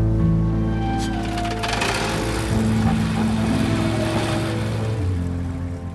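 A motorboat driven by Dexter in the series Dexter drones steadily and loudly, its low hum shifting pitch slightly, with a rush of water and wind noise throughout, continuous for the whole stretch.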